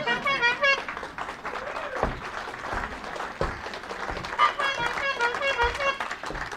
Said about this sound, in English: In the meantime, you and this gentleman split all this applause.